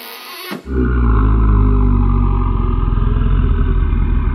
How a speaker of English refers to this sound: Oh, they must be sleeping. I've never heard snoring like that before.